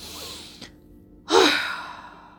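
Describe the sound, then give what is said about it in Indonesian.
A single quick, forceful exhale after a long, deep breath, done as a breathing exercise, bursts out loud and breathy, with a faint intake sound just before it, then trails off over a second. No one speaks. “Hembuskanlah dengan cepat dan keras seperti ini.”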